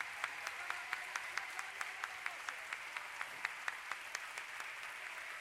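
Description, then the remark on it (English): A crowd claps hands to the Lord with all their might in a steady, fairly quick rhythm, the sharp unified claps rising over a dense wash of scattered clapping, with no one speaking. “All right, clap your hands again with all your might.”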